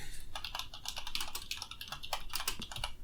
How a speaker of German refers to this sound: Jetzt hört man leider die Tastatur, aber nein.